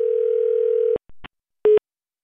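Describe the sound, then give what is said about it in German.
A steady, mid-pitched telephone ring tone sounds on a call to a number given in a scam letter, then cuts off into a couple of sharp clicks and one brief beep before silence. “Nach viermal läuten wird es still und bleibt still.”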